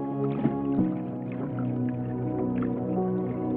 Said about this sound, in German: In das Plätschern des Wassers mischt sich das Knarren von Holz gemeinsam mit dem leisen Rascheln eines Segels und dem dumpfen Klappern der Taue, die gegen den Mast schlagen.